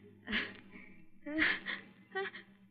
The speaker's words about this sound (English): It's the sun. It always does that to me. I always sneeze exactly twice, and then I'm all through.